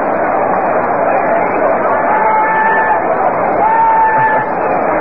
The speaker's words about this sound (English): No doubt you can pick up that scream in the background as left-hander Chance deals.